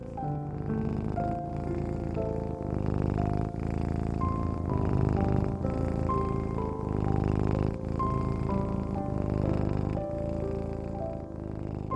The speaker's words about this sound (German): Und Luna, die kleine Zauberkatze, liegt warm auf deinem Bauch. Sie schnurrt.